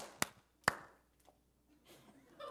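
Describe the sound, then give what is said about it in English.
One person claps twice, two sharp, loud, isolated claps about half a second apart, during a service, followed by quiet shuffling and faint murmuring, with nobody else joining in. “And folks, if one of you start clapping, we need to support them.”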